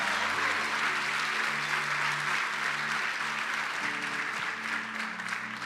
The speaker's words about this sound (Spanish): Iglesia, levanta un aplauso más fuerte para el Señor esta mañana.